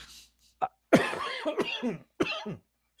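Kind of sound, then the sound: human body sound, coughing fit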